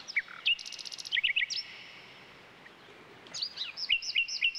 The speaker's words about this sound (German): Ein solcher Vogel ist, wie der Name schon verrät, die Nachtigall. Sie ist ein scheuer Singvogel, den man nur selten zu Gesicht bekommt, dafür aber umso besser hören kann.